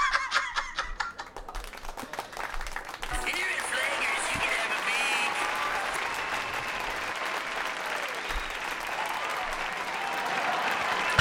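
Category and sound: crowd, applause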